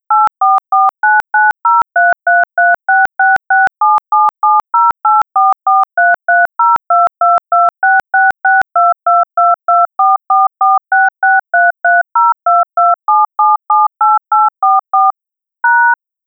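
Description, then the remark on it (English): A long, steady run of loud touch-tone keypad beeps, dozens of short dual-pitched tones pressed in quick, even rhythm, with no talking, as a personal message for a money transfer is entered on a phone banking system. “Please use your touchtone keys to enter the personal message.”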